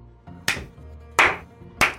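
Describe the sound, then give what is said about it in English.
Three slow, deliberate, sharp hand claps, spaced evenly over about two seconds against a faint low background rumble. “Then you hear a clapping.”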